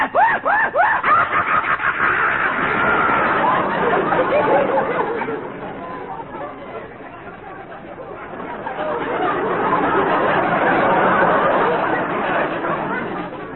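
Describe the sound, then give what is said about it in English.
A single voice rattles off impressions of jungle animals: a shaky, frightened horse whinny, then frantic, wild monkey chattering and a maniacal, cackling hyena screech, loud with barely a pause between them. “The frightened whinny of our horses. The wild chattering of the monkeys. The maniacal screech of the hyena.”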